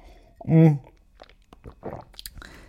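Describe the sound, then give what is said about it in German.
A quiet sip of cooled green tea followed by a swallow and soft wet mouth noises, with a brief hummed vocal sound near the start. “Vorher muss ich nochmal einen Schluck trinken.”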